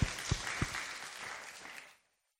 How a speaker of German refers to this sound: du hast einen Applaus verdient. Super. Danke.